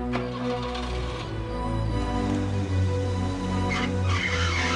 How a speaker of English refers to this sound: Driving slowly, he makes a three-point turn and backs the car up as close as he can to the porch just in front of cabin one.